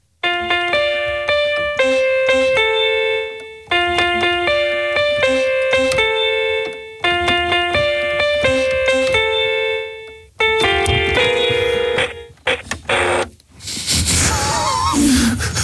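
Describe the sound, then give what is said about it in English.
An electronic keyboard plays a rendition of a famous song, a repeating phrase of bright, sustained notes with the clack of keys being pressed, louder than the keyboard's own sound, then stops; a burst of breathy noise and rustling follows at the end. “The sound of the keys getting pressed is louder than the noise the keyboard makes.”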